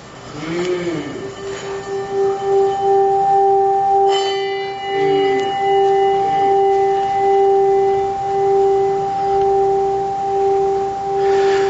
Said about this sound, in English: And this is my favorite, one of my favorite sounds about bells.